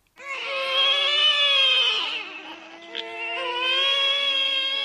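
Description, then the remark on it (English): Several babies crying at once, their sustained, wavering wails overlapping in a continuous loud chorus with a slightly bleating quality and no pauses for almost five seconds. “It's babies crying.”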